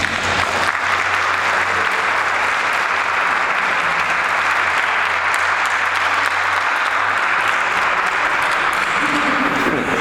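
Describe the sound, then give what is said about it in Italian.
Sustained applause from an audience welcoming a speaker on the Bible, a dense steady wash of clapping at full volume for the whole stretch, with no voices standing out above it. “Quindi l'accogliamo, un bel applauso, vieni e segni con noi.”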